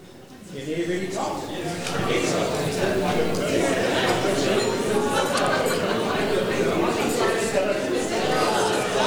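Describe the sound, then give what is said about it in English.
Dinner guests chatting at their tables: a dense, steady hubbub of many overlapping voices that swells up within the first second and stays loud and unbroken throughout, with no single speaker standing out. “Just chat at the tables in the meantime.”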